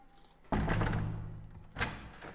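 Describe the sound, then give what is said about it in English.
A hotel room door, room 602, is unlocked with keys by room service with a sharp metallic clunk and a resonant rumble as it swings open, followed by a second softer knock a moment later. No voices. “God, just gotta get my keys here. Ugh. Well, I'm coming in anyway”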